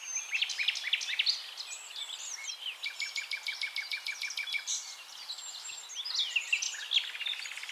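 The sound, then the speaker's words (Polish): A nightingale sings continuously, with rich varied phrases, rapid repeated notes and fast trills, while other birds chirp faintly in the background. Recorded in May, shortly after rain. “Ale co ja tu będę mówił, jest wybitny śpiewak Słowik.”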